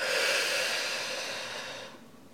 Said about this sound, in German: Wir atmen tief durch die Nase ein, gemeinsam. Und atmen dann ganz bewusst durch den Mund aus.